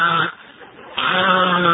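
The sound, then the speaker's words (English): A person imitating chirping crickets makes two loud, nasal, wavering tones, with a brief softer dip between them and no words spoken. “But you never heard a better likeness of the cricket sound in your life than that.”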